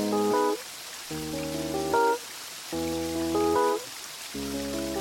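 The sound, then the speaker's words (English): A steady hiss of rain and running water fills the background while sustained musical chords rise over it in four repeated phrases, the watery wash continuing evenly throughout. “We have the sound of rain, of flowing water.”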